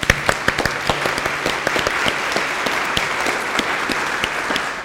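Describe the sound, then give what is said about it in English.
An audience applauds the college's building and facilities care team for their hard work, steadily for about five seconds, a dense wash of many hands clapping with sharp individual claps popping out, holding an even loudness throughout without any voices. “So I want to take a moment to applaud them for all of their hard work.”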